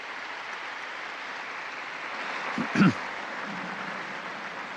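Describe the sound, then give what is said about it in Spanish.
Steady crowd applause for newly beatified martyrs, a dense, even wash of clapping from many hands throughout, with a brief louder burst of sound partway through. “Un aplauso a estos nuevos beatos.”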